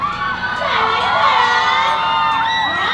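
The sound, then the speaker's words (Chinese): A large audience at a 2024 New Year's Eve countdown gala screams and cheers continuously, with many high-pitched shrieks and whoops overlapping into a loud, sustained roar that fills the whole stretch. “不可能依然的尖叫就是这么小声吧？”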